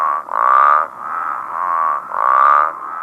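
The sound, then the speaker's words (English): Great Basin spadefoot toads call in a steady, nasal, pulsing chorus, the buzzy notes overlapping and swelling louder roughly every second or two, with no voices. “The spadefoot toad, the Great Basin spadefoot, it sounds like someone with squeaky shoes walking down a linoleum hallway.”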